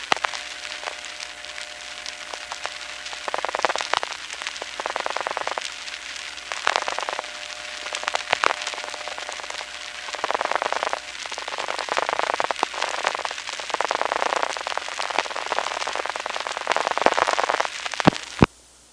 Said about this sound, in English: And here you can hear other people getting dial tones and dialing.